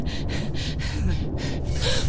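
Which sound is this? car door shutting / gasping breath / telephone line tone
gasping breath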